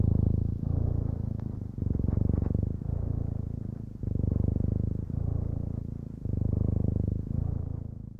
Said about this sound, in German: Ist die Katze fertig mit Schnurren